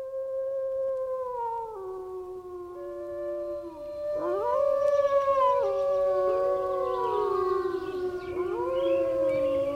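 Several wolves howl together in long, sliding tones that rise and fall, overlapping voices forming a loud chorus that swells midway and carries on steadily with no talking.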